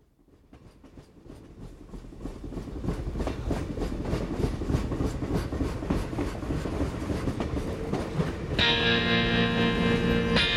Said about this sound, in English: Watch out for that black train. It's a terrible thing to ride.